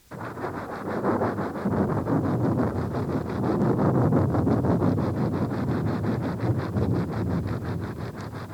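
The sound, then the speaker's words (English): A steady, roaring wind blows for several seconds, a dense rushing noise that swells slightly and holds loud throughout, with a faint rhythmic flutter running through it and no voices. “You should have circled the picture of the storm cloud.”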